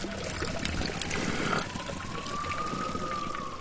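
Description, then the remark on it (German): Iron-rich mineral spring water trickles and splashes steadily from the spout of the ancient Pouhon Pierre le Grand fountain in Spa, continuous, with a faint high tone drifting in the background. “Wir sind in diese Pouhon Pierre le Grand, Peter der Groß, ein uralter Brunnen von Spa. Und man kann diese eisenaltische Wasser trinken.”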